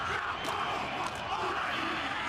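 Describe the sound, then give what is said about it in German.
Maori performers do a haka: a loud group shouts a fierce chant together, a dense, continuous roar of bellowing with a few sharp thuds of stamping feet and hands slapped rhythmically on bodies cutting through, a war cry performed by many people at once. “Sie singen laut, stampfen die Füße auf den Boden, strecken ihre Zungen weit heraus und klatschen ihre Hände rhythmisch auf den Körper.”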